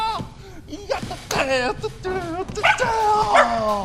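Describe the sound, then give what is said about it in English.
Five fluffy puppies aboard a space station yip and bark in quick, overlapping high-pitched bursts, some calls rising into whiny squeals, fairly loud throughout. “Our American comrades have given us a surprise gift. 5 fluffy puppies to keep us company here in space.”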